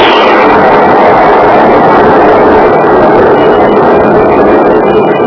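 A loud, continuous crash of a ship striking at night along the coast near the Windy Point beacon: a dense grinding, rumbling roar that fills the whole five seconds at a steady level, with no voices.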